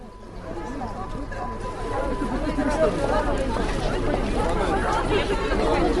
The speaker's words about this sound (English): people on the platform surge towards the train to sell you something